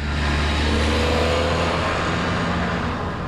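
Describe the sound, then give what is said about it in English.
A farm tractor drives north on blacktopped 59th Drive, crossing the planned east-west trail extension corridor between Union Grove and Sturtevant, its engine a steady, low droning rumble layered with broad tire and road noise that holds loud and even throughout. “A farm tractor rolls north on the blacktopped 59th Drive and crosses what's scheduled to become the east-west trail extension.”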